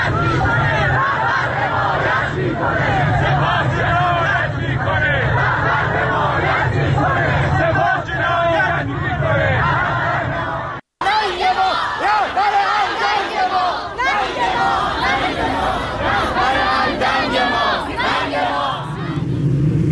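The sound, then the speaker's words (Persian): A large protest crowd chants slogans against the Islamic Republic's leadership loudly in unison around Azadi Square and Habibollahi Street in Tehran, Iran, on a Sunday; voices rise and fall in a steady rhythmic cadence; the chanting cuts off briefly midway, then resumes with a second equally dense chorus. “به تعدادی از این شعارها و فایل های صوتی که بر روی شبکه های اجتماعی منتشر شده با هم گوش کنیم.”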